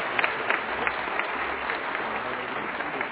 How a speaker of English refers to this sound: Let's give the kids a hand clap as well. Kids did a great job.